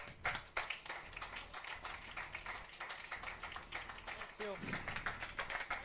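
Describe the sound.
A crowd applauds steadily for several seconds, dense clapping filling the room at a fairly loud level, with a brief voice calling out near the end.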